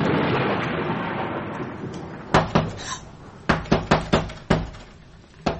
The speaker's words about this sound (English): 'Tis the onion seller's secret knock.